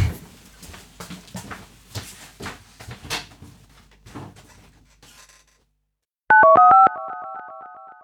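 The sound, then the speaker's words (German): Soft clattering and handling noises, a brief silence, then a loud telephone dial tone with a few quick stepped beeps before it settles into a steady hum, as someone places a call from a telephone. “Und ich hüpfe schnell runter und hole den Kopfhörer und ruf dich dann vom Telefon aus an.”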